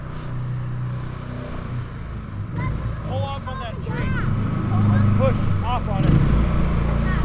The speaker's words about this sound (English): To get here, we had to take a small rickety airboat that holds about 350 pounds. On the way home, with the weight of five of us, several backpacks, and even a trumpet case, we're well over capacity as we boat through the floodwaters.